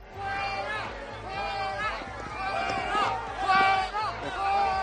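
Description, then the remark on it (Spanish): A loud crowd of about 30 people boos and jeers continuously while banging pots in an irregular clatter of sharp metallic knocks, voices rising in waves, greeting President Sánchez and the health and science ministers on a morning visit to the clinical trials unit of La Paz Hospital in Madrid. “marcada por sonoros abucheos”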